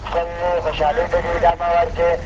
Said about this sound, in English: This announcement, broadcast from a slow-moving truck, admonishes Kandaharis not to bring guns to the bazaar.